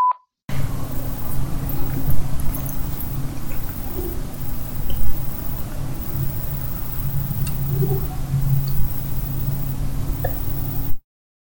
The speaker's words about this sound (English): All right, so we also caught something else which is like much deeper that sounds almost like it's attempting to mimic a screech owl. But it definitely, not, it definitely not completing sounds, the call.